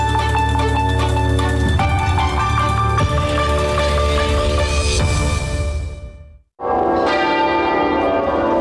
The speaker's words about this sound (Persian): روز جمعه صدای ناقوس کلیساها و شلیک توپها در سراسر بریتانیا از پایان 70 سال سلطنت ملکه الیزابت دوم خبر دادند.